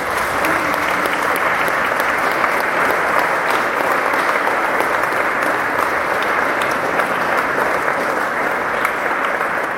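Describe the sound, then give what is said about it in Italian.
Steady, dense applause from an audience, a continuous loud patter of many hands clapping at an even level for the full length with no pauses or voices standing out. “Un grande applauso.”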